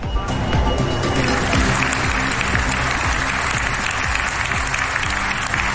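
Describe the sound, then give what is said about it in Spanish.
Sustained applause from a large audience at the Cervantes Prize ceremony, where the King and Queen of Spain present the award to Álvaro Pombo in the Paraninfo of the University of Alcalá de Henares on 23 April. A dense, steady wash of clapping stays loud throughout, with a faint murmur of voices underneath. “Los aplausos a Pombo.”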